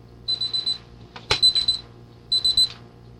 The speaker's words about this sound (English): The snooze alarm.